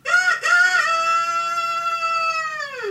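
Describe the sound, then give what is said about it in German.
A rooster crows, one long loud cock-a-doodle-doo with a brief break near the start, then a sustained strained note that trails off, with no one speaking. “Wie ich manchmal diese Hühner beneide, dieses einfache, unkomplizierte Leben,”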